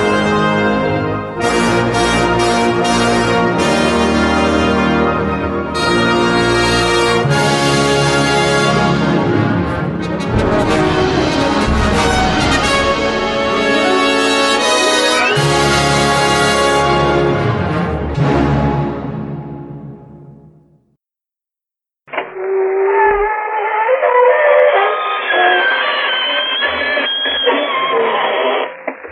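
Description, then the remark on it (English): A loud, full old-time radio drama opening theme plays with dense sustained chords, fades out into a brief silence, then a thinner, tinny-sounding musical passage follows. “That music you hear is a new little thing dedicated to us.”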